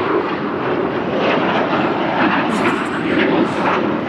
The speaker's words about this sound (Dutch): En nu zijn er vier straaljagers. Is dat een oefening?